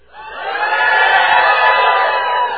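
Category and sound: crowd, audience shouting loudly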